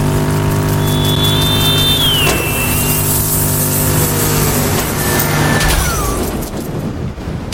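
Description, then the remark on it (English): A video game car engine roars loudly and steadily, with pitch sweeps as it speeds along, then a burst of clattering, crunching noise near the end as it crashes into a police car. “I think I just hit a cop car.”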